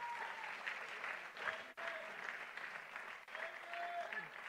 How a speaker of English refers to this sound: Can I hear a hand clap about that today?